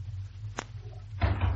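A side door leading out through a bank's general office opens and closes: a single sharp click, then a louder scraping, rumbling burst a moment later, over a steady low hum.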